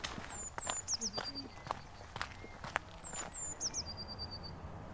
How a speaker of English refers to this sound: what we're hearing now is probably going to be a cacophony of things such as blackbirds